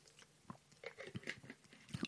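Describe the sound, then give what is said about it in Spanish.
Someone takes a few small sips of water, with soft wet mouth clicks and quiet swallowing noises scattered irregularly over a couple of seconds, no talking. “Se ve que no, voy a beber un poquito de agua, entonces.”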